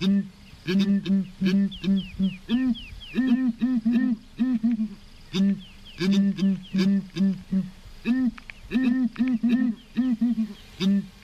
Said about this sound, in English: heard a ground hornbill? I hadn't until I met Suleiman Chimbetu at Cockpit Studio in Harare. It's a kind of bird that lives in savanna regions.